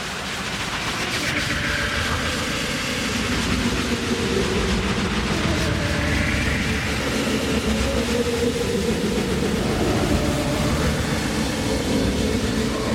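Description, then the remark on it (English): A departing train rumbles steadily and loudly throughout, a dense mechanical roar with low clattering and faint whining tones, without any voices. “The train is now departing Beta Station 2 from the WellDroid Remix platform to start our sonic adventure.”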